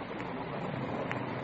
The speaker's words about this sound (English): Rain's starting in. Windy.